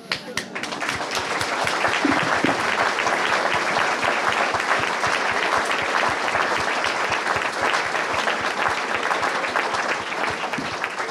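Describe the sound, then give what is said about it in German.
An audience applauds steadily for about eleven seconds, a dense, even wash of many hands clapping at a constant loudness with no voices standing out. “Der medizinischen Fakultät werde ich den Beifall melden.”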